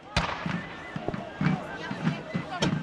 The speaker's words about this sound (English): Smoke and flame erupt from the batteries of cannon as cavalry sweeps across the battlefield amid the crackle of musket fire.